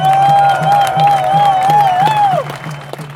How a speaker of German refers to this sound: Sagt einander Danke, dass ihr hier seid. Jubelt füreinander. Macht einander Platz.